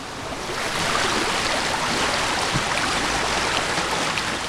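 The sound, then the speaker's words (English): A steady, loud rush of a waterfall beside a bobbin mill in the countryside of the Lake District, Cumbria, a dense continuous roar with no breaks and no voices over it. “We're standing at the edge of a waterfall.”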